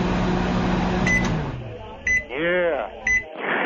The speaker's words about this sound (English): You got a guy putting Menudo into a microwave